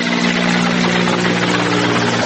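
A rescue helicopter's steady, loud engine and rotor drone, a constant low hum with broad roaring noise on top, holding level throughout with no voices, during floods in Obrenovac, Serbia, where the swollen Kolubara river flooded the area and people were pulled from the water by helicopters.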